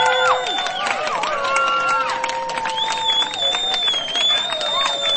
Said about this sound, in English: They're making their way to the stage, so please keep that round of applause going!